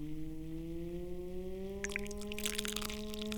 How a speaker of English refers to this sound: Let's pour some tea into the little teacup.